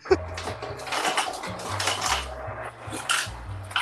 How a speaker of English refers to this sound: Yo, who's frying chicken? First of all, that's an ice machine.